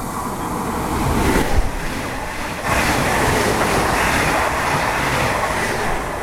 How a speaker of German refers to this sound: Jetzt kommt der Zug, man hört ihn schon.